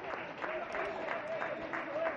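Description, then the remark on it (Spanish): A large stadium crowd applauds as Rubén Blanco has to leave the match and is replaced by Iván Villar: a steady, dense wash of clapping that holds at an even, moderate loudness throughout, with crowd voices murmuring faintly underneath. “Ahí escuchamos los aplausos de absolutamente todos.”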